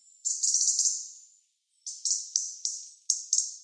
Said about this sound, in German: Klingt wirklich so ein bisschen, als würde man eine Uhr aufziehen. Das schreibt zumindest der Svensson, also der Kosmos-Vogelführer.